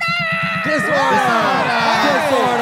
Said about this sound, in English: so I think also when we say order, that means actually we all just cheer a lot.